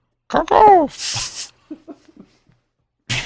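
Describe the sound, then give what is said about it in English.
A crow caws loudly: a harsh, wavering call, then a raspy noisy burst, a few soft scattered clicks, and another rough burst starting at the very end. “Goodness, it sounds as though a crow is in the studio.”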